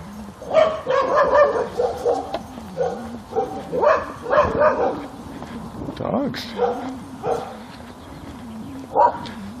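Dogs bark and yip in a rapid, uneven series of short bursts, moderately loud, with a low steady rumble in the background.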